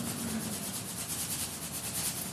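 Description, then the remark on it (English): Crunchy seeds being sprinkled into food make a steady, dry rustling hiss with quick, regular pulses running through it for a couple of seconds, soft and with no voices. “But if you sprinkle them on now, they don't taste anything. It's just crunch.”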